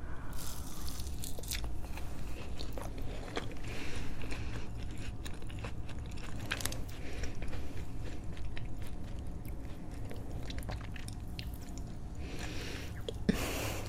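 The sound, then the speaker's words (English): Biting and chewing of a slightly cold raspberry macaron, with sharp crackling crunches of the outer shell and wet mouth sounds repeating steadily over about fourteen seconds, no talking. “Why I love macarons is you get the outer crunch, and then it's immediately soft and sort of just like spongy melts in your mouth.”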